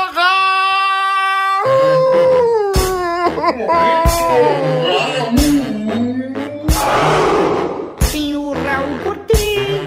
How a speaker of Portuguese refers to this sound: Então chora, tá? Então chora. Tô chorando no momento!